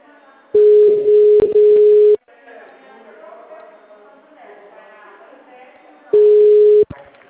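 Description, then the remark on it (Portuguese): A steady, mid-pitched telephone line tone sounds loudly for about a second and a half, then a person talks, and the same flat tone returns briefly at the end. “É um telefone.”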